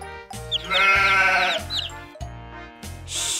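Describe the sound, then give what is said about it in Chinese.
A goat with a long beard bleats, loud, quavering cries in two or three bursts, with no one talking over them. “Peter 好奇地问山羊几岁。”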